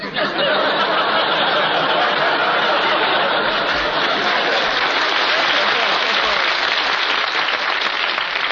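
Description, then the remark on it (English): A studio audience breaks into sustained, loud applause with some laughter mixed in, a dense steady wash of clapping that holds at full strength for several seconds. “Please, there's two ways to take that applause, you know.”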